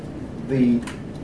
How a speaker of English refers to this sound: And, of course, quarter tones in Western music are not something that by the way, quarter tone is when you go do, re. Let me demonstrate.